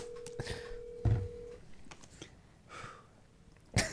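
A single steady ringback tone from an outgoing phone call to a restaurant, ZK in Newport Beach, to make a reservation, sounds for about a second and a half, then breaks off, with sniffs and breathy noises scattered around it.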